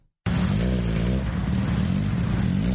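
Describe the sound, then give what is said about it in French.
A motorcycle engine starts abruptly after a moment of silence and revs steadily, a loud continuous drone with rising and falling pitch amid the congested street traffic of Nairobi. “Il est pratiquement impossible de repérer une femme au guidon de Buda Buda ou autre moto qui sillonne les rues encombrées de Nairobi.”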